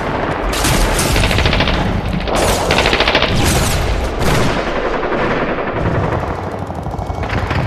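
Simulated battlefield gunfire: dense, continuous shooting with rapid machine-gun bursts and heavy booming blasts like artillery shelling, loud and chaotic throughout, filling the whole stretch without any speech.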